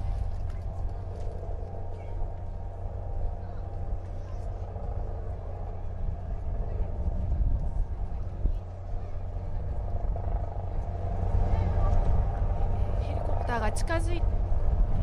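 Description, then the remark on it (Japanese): A red Kyoto City Fire Department Aviation Unit helicopter carrying medical supplies thumps in a steady, deep rotor drone that grows slightly louder as it approaches to land on the flight deck of the escort ship JS Hyuga, with a brief high chirping sound near the end. “ヘリコプターが近づいてまいりました。音お聞きいただけますでしょうか。バラバラという音でね、近づいてまいりました。”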